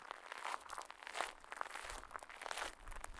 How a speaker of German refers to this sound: Unter deinen Füßen raschelt der Kies, der auf dem Weg zwischen den Ferienhäusern liegt.